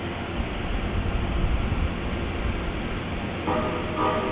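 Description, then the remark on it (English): A passenger train's horn sounds two long, steady, mid-pitched tones near the end, signalling that the train is ready to depart, rising over a constant low rumble of rail noise that fills the whole recording. “Okay, two long tones. It means he's ready to roll out.”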